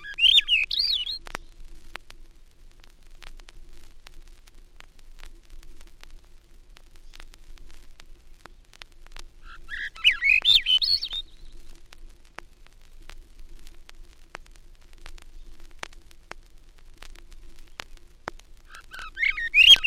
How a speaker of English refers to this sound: Now the ascending notes of the olive-back thrush among the spruces of the Adirondacks.